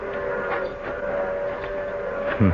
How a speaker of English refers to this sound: The train's coming. We gotta get on it and get out of here.